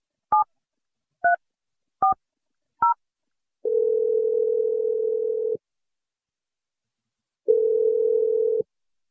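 Four quick telephone keypad beeps as a radio show dials out from its studio are followed by two long, steady outgoing-call ring tones separated by a pause, clear with no voices.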